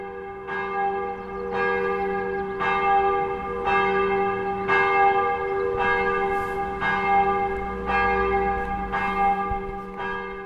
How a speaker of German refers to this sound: Wieso läuten jetzt die Kirchenglocken?